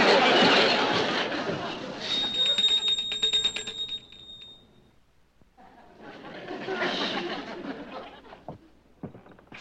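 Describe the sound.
A voice mimics a ringing bell with a high, steady trilling tone that lasts a couple of seconds. It rises out of a busy, noisy background, followed by another burst of noise.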